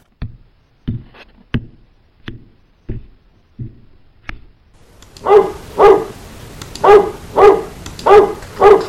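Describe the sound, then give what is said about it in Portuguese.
A run of soft, low thuds gives way to a dog barking loudly, six sharp barks in a steady rhythm with no one speaking. “Olá, cão.”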